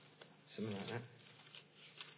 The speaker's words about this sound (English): It's good when it's always good when as a preacher when you hear the pages turning. Ez már mindig jó innen a pulpitusról hallani, ahogy az embereknek a lapoznak a Bibliájukban.